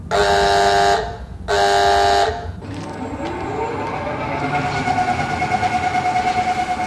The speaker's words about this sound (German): Und nach einer Revisionspause von 3 Wochen wird die typische Kranenhupe ankünden, dass der Stahlkoloss wieder seine Arbeit aufnimmt.